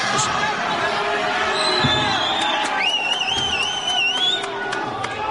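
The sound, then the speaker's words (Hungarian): An audience applauds the leader of the Mikepércsi Anyák a Környezetért Egyesület (an environmental association), a dense, steady patter of clapping lasting several seconds at an even loudness, with a few thin, high, whistle-like tones sliding upward over the crowd noise. “Nagy tapsot kapott a Mikepércsi Anyák a Környezetért Egyesület vezetője”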